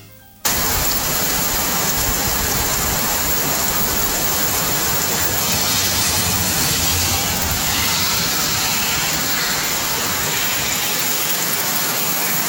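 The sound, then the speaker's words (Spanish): Heavy, torrential rain pours down in Puerto Nuevo in a steady, dense roar that fills the whole recording, loud, with no voices and a faint sound of vehicles passing on the road underneath. “Nos dicen, quiero informarles que en este momento llueve torrencialmente en Puerto Nuevo. Y nos enviaron el sonido de la lluvia.”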